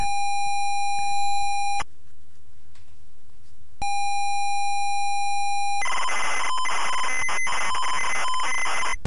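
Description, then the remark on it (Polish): An electronic telephone ring in a video game sounds in two steady tonal bursts separated by silence, followed by a harsher, noisier burst of ringing, loud and with no one speaking. “Oho, telefon znowu dzwoni.”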